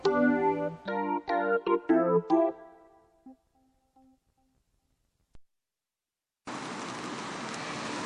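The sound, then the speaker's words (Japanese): A short tonal jingle of plucked notes fades into near silence, then a steady, dense hiss of falling rain starts abruptly and continues at an even level to the end. “収録を開始しようと思ったらいきなり雨が降ってきました。”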